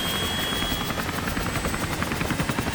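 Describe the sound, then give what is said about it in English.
Loud helicopter rotors thump in a fast steady rhythm, with a whining turbine tone above, filling the whole stretch without any voices: two helicopters carrying 51 Marines take off from the USS Kearsarge, a US Navy amphibious assault ship off the Balkan coast, on a rescue mission. “Two helicopters carrying 51 Marines take off from the USS Kearsarge.”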